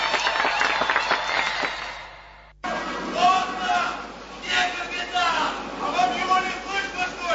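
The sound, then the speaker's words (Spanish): A crowd applauds with dense, steady clapping mixed with voices, then the sound cuts abruptly to a loud crowd of shouting, chanting voices, from a Russian-language stage version of a classic English play. “Las palabras dentro del aplauso.”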